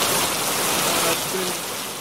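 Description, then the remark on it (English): Light rain sprinkles on and off, with no serious rain, under mostly cloudy skies and light winds of 5 to 10 miles an hour: a steady, soft patter, a continuous hiss of drops with no other sounds standing out, easing slightly toward the end. “Just sprinkling on and off.”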